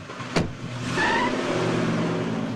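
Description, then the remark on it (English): A single sharp thump like a car door shutting as the dog Kirby jumps into the car, followed by one person, and another gets in on the passenger side; then the car engine turns over and settles into a steady idle rumble. “The dog jumps in the car, followed by Michael. Jane lets herself in the passenger side.”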